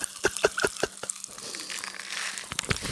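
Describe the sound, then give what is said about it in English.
A rain stick is shaken: a few sharp rattling clicks, then a steady hissing cascade of tiny pellets trickling like rainfall, ending in a scatter of louder taps. “I found like a rain stick.”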